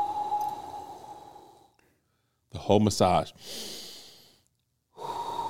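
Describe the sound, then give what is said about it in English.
A voice imitates a man's loud, heavy, controlled breathing while he gives a massage: a long rasping breath, a brief spoken phrase, another drawn-out breath, then a third one beginning. “But he's giving me the massage, and he's breathing like this loud.”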